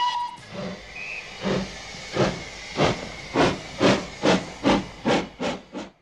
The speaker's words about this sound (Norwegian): Landet var stort, og varer og folk måtte fraktes. Damplokomotiv ble løsningen.